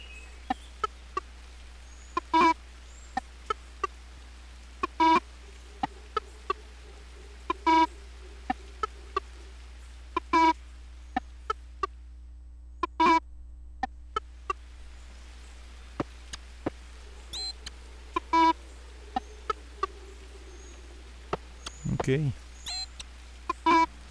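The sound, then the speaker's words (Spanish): Nocturnal birds call over and over in short, sharp chirps at an irregular pace, clear against a quiet background, with a brief rustling burst near the end. “Mire, pajaritos nocturnos.”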